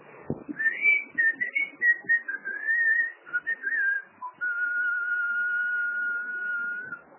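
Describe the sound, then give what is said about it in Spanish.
A person standing at the door of a long house whistles a wandering tune with rising and falling notes, then holds one long steady tone to the end. The whistle is clear and alone, with no talking. “Me paro en la puerta de la casa del polaco, una casa de esas largas. Y el pasillo al fondo. Y chiflo un poco.”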